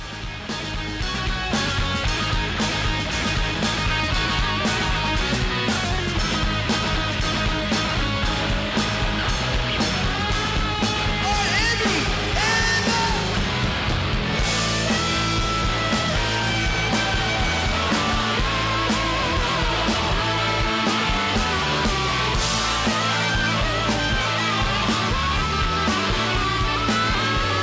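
A dense, loud rock band jam plays continuously with a shrill, screaming harmonica wailing over driving drums and guitars as the band takes a key change into a louder turn, with no voices.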